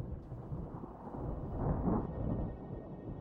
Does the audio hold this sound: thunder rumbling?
yes